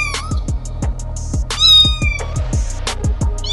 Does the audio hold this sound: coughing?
no